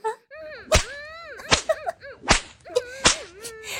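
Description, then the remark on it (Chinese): Four sharp, loud lashes of the Seven Emotions and Six Desires whip strike skin at roughly even intervals, each a crisp crack, while a voice lets out drawn-out pained cries and moans between the blows. “我的七情六欲鞭可不是普通的鞭子啊，被鞭子抽打皮肤，就像摸了世间最烈的春药一样，而且还可以激发出身体最原始的欲望。”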